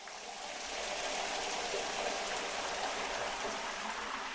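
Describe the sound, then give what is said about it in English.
Shower water runs in a steady, hissing spray as a man showers to get ready for work, swelling up over the first moment and then pouring on evenly, with no voices. “He rises and goes to the shower to get ready for work.”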